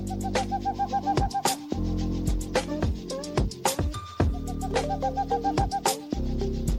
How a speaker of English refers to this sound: Today, fellow TikTok user So Wiley continues this tradition by producing beats from bird samples.